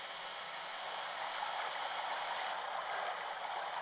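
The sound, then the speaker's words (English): Water pours steadily from a spout swung over a tank whose water level is down 6 feet, a continuous, loud, even rush of splashing flow with no pauses and no voices. “Water level's down 6 feet. Swing that spout over.”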